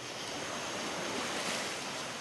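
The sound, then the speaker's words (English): Wake waves from a giant passing freighter wash against an earthen levee at night in a steady, fairly loud rushing surge of water, with no voices. “They're surprisingly quiet until their wake hits the earthen levee.”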